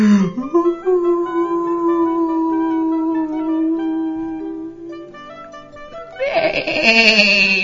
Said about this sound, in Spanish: Baló la oveja.